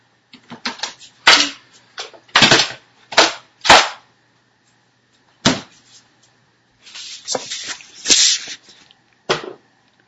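Eight ice cubes drop and clink in a series of sharp, hard clacks at irregular intervals, some single and some in quick rattling bursts, fairly loud with quiet gaps between and no talking.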